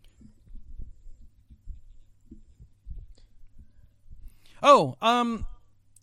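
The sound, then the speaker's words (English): A two-note app message chime, signalling a message from Smoof, rings out near the end, each tone bright and sliding downward in pitch, following several seconds of soft, low, irregular thumping. “Oh, it's a message from Smoof.”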